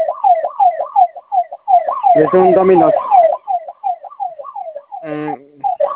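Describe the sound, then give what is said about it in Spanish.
A store security alarm at the Ángel shop wails with a rapid, repeating electronic warble that runs without pause, its keypad locked so it cannot be silenced. It stays loud while a voice briefly speaks over it twice. “Oye, hace rato me marcaron que iban a silenciar una alarma.”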